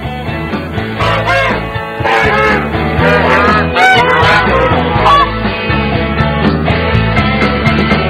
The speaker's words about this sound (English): But I know you want to hear more of this honky-tonk geese, so I'll just let them go for it.